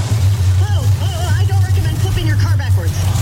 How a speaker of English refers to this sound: Progressive presents Flo and Jamie announcing a monster truck rally. And here comes the Obliterator. Whoa, and he's up on two wheels. That can't be safe.